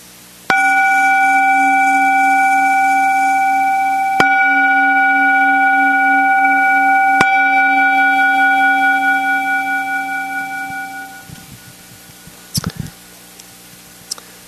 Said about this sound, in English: And we'll hit a little gong, and then I'll just share a couple announcements.